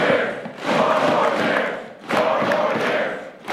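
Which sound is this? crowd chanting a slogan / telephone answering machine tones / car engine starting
crowd chanting a slogan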